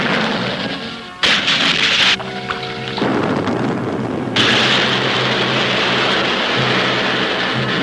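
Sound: depth charge explosions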